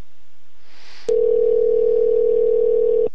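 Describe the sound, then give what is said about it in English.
A steady, unbroken telephone dial tone hums for about two seconds at a constant mid pitch, preceded by a brief soft hiss, then cuts off abruptly as a call is placed to a Craigslist seller about a Chevy engine. No one speaks. “But I've got some other Craigslist numbers for various things, and we're going to go ahead and give them a call this evening.”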